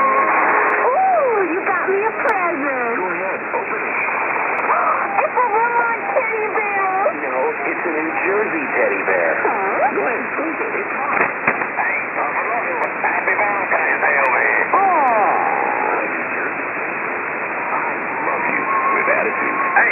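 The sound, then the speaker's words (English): Shortwave radio reception of station KUSA, North America, on 6955 upper sideband around 2030 UTC in December, with voices warbling through a steady hiss of static; the sound is band-limited and tinny, with wavering tones and crackle throughout at a constant loud level. “Take a listen to KUSA. Very cool. I have yet to catch KUSA, and so this is an interesting catch for me.”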